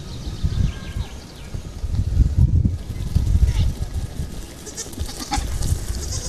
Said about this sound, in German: Hört ihr das? Hört ihr das Trappeln der Ziegenhufe?